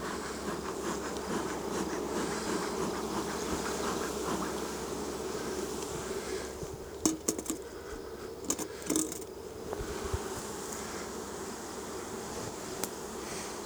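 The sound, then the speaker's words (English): A steady, dense hum of many honeybees buzzing at an open hive as a beekeeper inspects it, using a smoker and taking out frames, with many bees in the entrance; continuous throughout, with a few sharp metallic clinks and taps breaking in around the middle. “A lot of bees in the entrance.”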